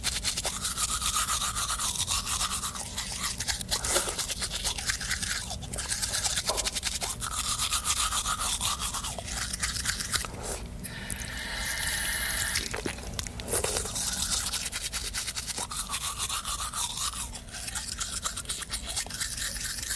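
Scrubbing of a toothbrush against teeth, a steady rhythmic back-and-forth bristle scratch with wet, foamy swishing, continuing without pause and no voices.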